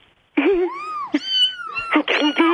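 Several drawn-out cat meows follow one another closely, loud, with rising and falling pitch and a couple of calls overlapping near the end, as if more than one cat is crying; a whole litter of cats roaming around the studios.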